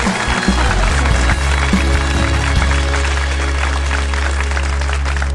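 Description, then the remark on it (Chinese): An audience claps steadily for several seconds for a participant after a sung performance, a dense, even patter of many hands at a constant loudness, with a low sustained hum running underneath. “那确实也是有些感触啊，把这个掌声再次送给你，谢谢参与，谢谢。”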